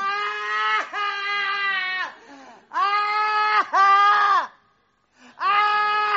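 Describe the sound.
A voice imitates the mournful wailing of professional mourners: four long, loud, quavering cries, each held about a second, separated by short gasping pauses, alone with no talking.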